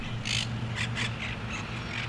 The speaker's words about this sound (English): It's an oasis in one of the largest urban areas on Earth. Some may consider this a place of tranquility in the city, but then you hear the parrots.